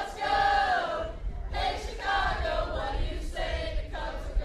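A large crowd of Cubs fans in Pensacola sings the Cubs win song together, loud sustained phrases from many voices in unison, broken by brief pauses between lines.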